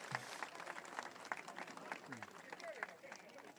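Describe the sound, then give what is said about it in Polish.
Steady audience applause at a campaign event in Łowicz, Poland, fills the space, a dense wash of many hands clapping continuously, with faint voices and cheers rising through it from the crowd. “Bardzo dziękuję, brawo. To dla was.”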